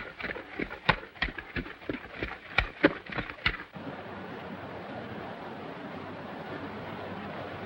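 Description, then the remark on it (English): Hooves of a horse and a pack mule carrying a large pack, led by a miner along a trail, clop along at a steady walking pace for a few seconds, then stop as a continuous rushing wash of noise takes over. “Ahead on the trail, the miner, Dusty, leads a mule carrying a large pack. Not far off, John continues on his way.”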